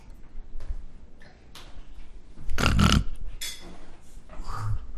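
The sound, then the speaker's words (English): A person imitates a pig, letting out one loud, rough snorting oink near the middle, with quieter scattered sounds and small noises around it. “What's a, make a pig noise. What's a pig do?”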